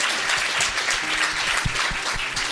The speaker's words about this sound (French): Applaudissements.